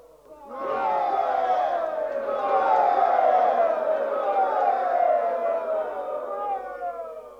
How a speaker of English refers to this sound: What is all the cheering about? It hasn't even started yet. The men are cheering for your majesty. It's an oral token of their loyalty and devotion, sire.